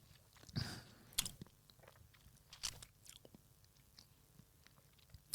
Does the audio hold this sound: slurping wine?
yes